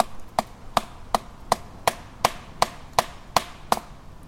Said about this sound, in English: So we're gonna do some knocking here.